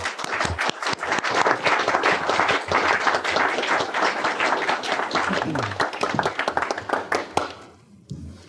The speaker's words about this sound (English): So thanks so much for coming, and a round of applause for Bob.